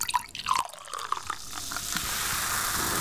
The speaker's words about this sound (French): On verse de l'eau pétillante, on entend.